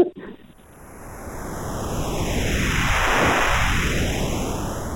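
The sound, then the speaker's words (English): A long, airy swoosh sound effect: broad rushing noise that swells steadily, peaks near the end with a sweeping, jet-like flanging, then begins to ease off. No voices. “It's called swoosh.”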